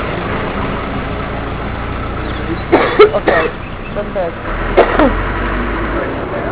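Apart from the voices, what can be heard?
truck engine idling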